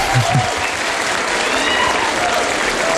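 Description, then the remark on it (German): Steady, loud applause from an audience for a poem just recited, a dense wash of many hands clapping continuously for about three seconds, with a faint murmur of voices underneath. “Und das ist dein Applaus dafür.”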